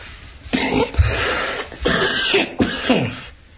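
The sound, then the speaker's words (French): A person coughs several times in quick succession, about four harsh, raspy bursts, fairly loud, with no talking in between. “Je sens que je vais tousser ce soir.”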